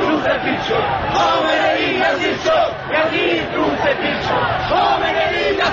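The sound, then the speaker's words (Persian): A large crowd of protesters, beating their chests, chants protest slogans in loud, continuous unison, many raised voices blending into a dense roar with rhythmic swells and no quiet gaps. “مردم سینه میزنند و شعارهای اعتراضی سر میدهند.”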